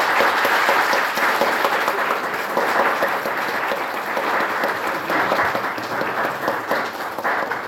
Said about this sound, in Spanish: Mr. Downs, it has been a wonderful talk. Thank you. Ha sido una excelente conferencia. Despidamos a Mr. Downs con un fuerte y caluroso aplauso, por favor.